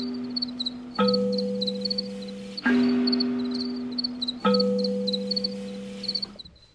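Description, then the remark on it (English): Many male crickets of a whole colony chirp at night in steady, overlapping pulses, their high trills layering into interlocking polyrhythms, while deep sustained tones swell in three times and slowly fade beneath them. “It feels like something's happening with like the whole colony. Like a lot of the males are locking in and creating polyrhythms, and then you hear different, like it's fantastic.”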